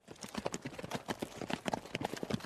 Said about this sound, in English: Something in the Black Knight's voice made the sheriff turn his horse and ride away.